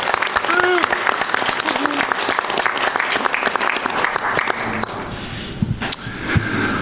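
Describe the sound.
Sustained audience applause, a dense crackle of many hands clapping steadily at a loud level, with faint voices and a few brief whoops mixed in before it thins slightly toward the end.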